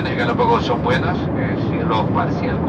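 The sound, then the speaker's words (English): A steady engine roar fills an airplane cabin on a flight from Quito to the Galapagos, with indistinct voices murmuring over the constant drone. “This is Radiolab, and today we begin on a plane.”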